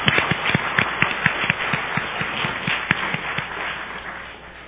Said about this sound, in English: Thank you very much. The job well done. 谢谢大家，大家干得非常好。 Let's give yourself a round of applause. 我们大家只为自己鼓掌。